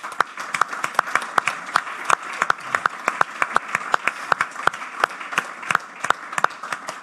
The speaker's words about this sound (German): Ganz großen Applaus für Carla Borger.